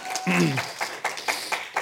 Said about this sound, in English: Is that enough for today? You can clap if you want. I'm just wondering if it's enough.